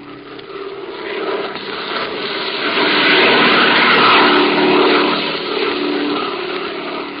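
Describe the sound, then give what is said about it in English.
A steady propeller-plane engine drones throughout, a buzzing hum with a low throbbing pulse that swells louder midway before easing slightly, with no voices. “Sure, I'll catch the first plane out.”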